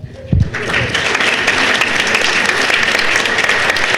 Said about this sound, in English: Actually, you know what? I'm going to turn this one over to the audience. I want you to clap again based on who you think was the best.